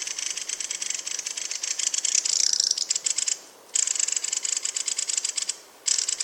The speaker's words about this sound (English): And the other thing you hear them doing all the time is their call and their alarm call, and it sounds like one of those old fashioned wooden rattles.